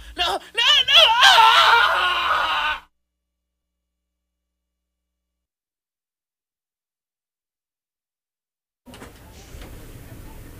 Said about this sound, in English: Every time she sees you, she could just take off and you could just let off steam by screaming.